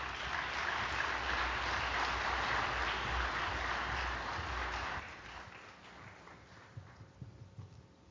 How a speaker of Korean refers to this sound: 그럼 무대에 모실 때 큰 박수 부탁드리겠습니다.